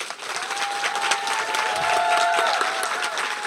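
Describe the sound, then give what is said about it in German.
A large live audience in a monastery garden (Klostergarten) gives big applause, clapping loudly and steadily for several seconds, a dense wash of hand claps with a few faint whistles or cheers rising above it. “Und vielleicht können wir es ja mal probieren, wenn sie einen großen Applaus geben, sollte das wahrscheinlich dann auch zu hören sein.”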